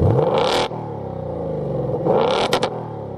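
A powerful car engine of nearly 500 horsepower revs hard twice, roaring up in pitch with a deep rumble between bursts, loud, with no talking.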